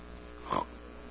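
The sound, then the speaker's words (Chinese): A person imitates an eight-year-old girl's 'Piggy Nose' habit of sniffing her nose, making one short, nasal, pig-like snorting sniff with a buzzy, grunting tone. It rises suddenly out of near silence and stops just as quickly, with no talking around it. “就是他会吸鼻子，然后发出一个这种声音。”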